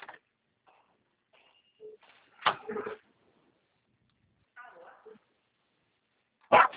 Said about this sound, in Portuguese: Para de latir, Mel. Ó. Nossa, cachorra, para! Para de latir! Não aguento meu ouvido.